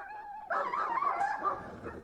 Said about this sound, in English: Phoenix heard the dogs fighting and heard the man running and throwing sticks